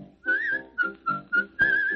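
Someone whistles a bright, clear tune in five short rhythmic phrases, the last note held longer, over soft musical accompaniment, with no talking.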